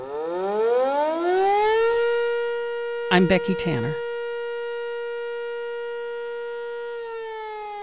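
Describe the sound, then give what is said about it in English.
A town whistle siren winds up from a low pitch to a steady high wail, holds the tone loudly for several seconds, then begins to wind down. A woman briefly speaks over it partway through. “You can read more about town whistles at kmuw.org.”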